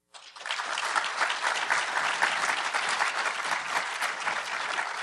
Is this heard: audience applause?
yes